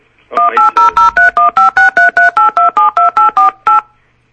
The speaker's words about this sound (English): Somebody played a song on their telephone.